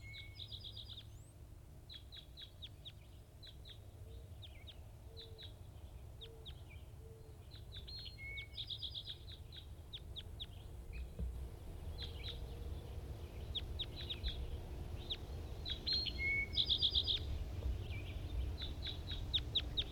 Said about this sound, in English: Recording wild birds.